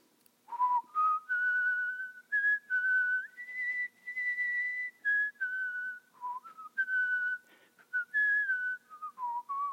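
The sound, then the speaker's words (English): A person whistles a slow hymn melody alone, clear, each sustained note gliding up and down with brief breaths between phrases. “I'm gonna try to whistle this minute. This is the song.”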